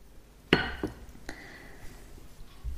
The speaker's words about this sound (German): Aber wie immer, zuerst stoße ich mal an und zwar heute mit mir selbst. Ich habe mir was Wunderbares gegönnt und das ist ein Olivin aus dem Hause Winkler Hermaden. Prost.